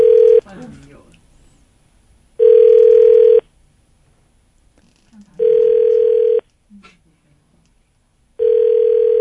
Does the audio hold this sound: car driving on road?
no